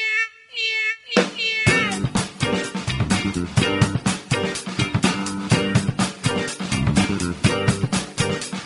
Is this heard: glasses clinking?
no